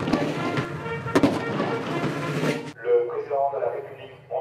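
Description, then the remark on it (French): A few loud booming cannon shots, fired in salute of the head of state's arrival aboard an amphibious helicopter carrier at the Toulon naval base, France, ring out over dense outdoor noise, spaced roughly half a second to a second apart, before a voice begins talking. “Oui, avec une arrivée saluée par des coups de canon dans la base navale de Toulon.”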